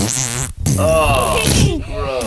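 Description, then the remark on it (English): A voice imitates a small, soft fart with a couple of seconds of buzzy, wavering mouth noise, briefly broken by a short pause partway through. “Even though it's so small, like the fart, yeah, it's smaller, it's softer, it's almost like beep.”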